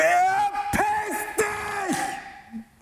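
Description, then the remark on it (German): A man yells loudly and hoarsely in strained, sustained bursts during an acting exercise, shouting at a woman playing his ex-girlfriend, his voice breaking and rising with sharp accented shouts, fading off toward the end. “Und mach noch mehr, komm, schrei ein bisschen.”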